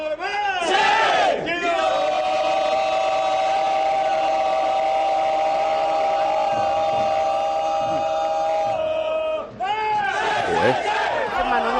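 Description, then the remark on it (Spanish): The Girona football team shouts a war cry in its stadium locker room, with a teammate rallying the players: rowdy yells erupt, then many voices hold one loud, sustained unison chant for several seconds before breaking into cheering again. “Esto es el grito de Girona en el estadio.”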